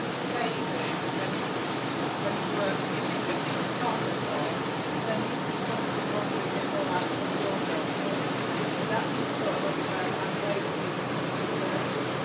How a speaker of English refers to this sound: I'll let you listen to the sound of the motor and the water rushing past.